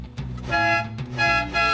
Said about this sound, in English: It also has a movie accurate horn.